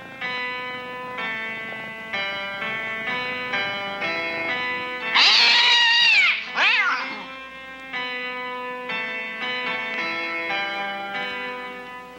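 A loud cat lets out two drawn-out, wavering meows in the middle, set against a steady background of sustained tonal notes that play before and after.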